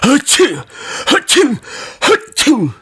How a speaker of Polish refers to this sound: I znów kichnął trzy razy.